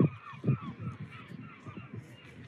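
seagulls calling

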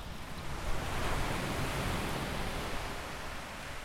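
ocean waves

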